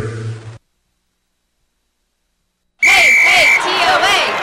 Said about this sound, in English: Oh, the TOA cheer. TOA? You know, Tennessee Orthopedic Alliance. Why are they cheering for them?